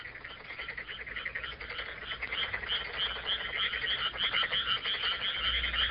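A dense chorus of frogs croaks steadily at midnight while someone is out catching frogs, many overlapping rapid calls forming a continuous pulsing din, loud, with a faint low rumble underneath and no voices.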